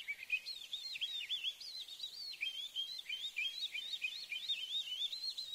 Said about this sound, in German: Bei so einer Feldlerche in Natura zwitschert und windet alles durcheinander.